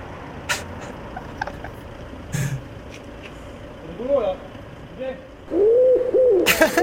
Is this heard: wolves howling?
no